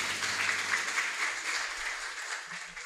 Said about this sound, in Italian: Quindi grazie di accoglierlo intanto con un caloroso applauso. Grazie per quello che ci offrirà.